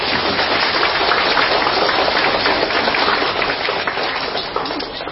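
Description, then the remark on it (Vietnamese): A large crowd of Buddhist followers claps steadily and continuously before the Dharma seat of Venerable Thích Phúc Tiến, head of Tường Vân monastery, Ho Chi Minh City; a dense, even wash of applause that holds its loudness throughout and eases off only slightly near the end. “Thưa các Phật tử, trước pháp tòa thầy Thích Phúc Tiến, thầy đang chủ trì tu viện Tường Vân, thành phố Hồ Chí Minh, xin tất cả bà con Phật tử cho một tràng pháo tay thật dài.”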